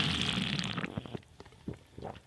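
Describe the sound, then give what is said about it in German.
A wet slurping sip through the mouthpiece of an Air-Up scented drinking bottle, a hissing, gurgling draw lasting about a second, followed by a few soft swallowing and smacking sounds. “Ja, dann mache ich jetzt aber schön zur Feier des Tages das übliche Air-Up-Geräusch.”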